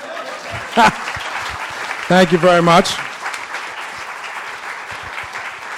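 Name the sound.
audience applause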